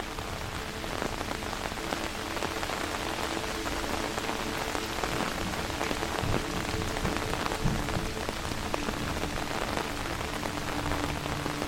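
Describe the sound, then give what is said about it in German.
Steady rain drums on an umbrella beside an old stone mill, fine drops turning into a steady downpour, a dense, even patter of countless small taps that stays constant and fairly loud throughout, with no voices. “Die feinen Tropfen verwandeln sich in einen stetigen Niederschlag, der auf deinen Schirm trommelt und die Umgebung in einen glitzernden Schleier hüllt.”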